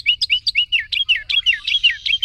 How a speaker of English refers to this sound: Sometimes it seems that the smaller the bird, the bigger the voice. Some of the noisiest species in the Americas are the wrens, their loud chants and trills all out of proportion to the slightness of those slender bodies.